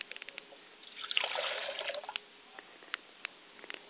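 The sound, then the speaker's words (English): Water is poured into a glass in one brief, quiet stream lasting about a second, with light drips and small clinks before and after, as a glass of water is set for a mother's spirit during a libation ritual. No one speaks. “I set a glass of water for my mother's spirit and I say Ashe.”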